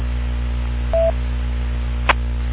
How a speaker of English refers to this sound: Okay, I'm not hearing the double beep. Different cell than the repeater. Hearing the beep like you would get on the 440 repeater.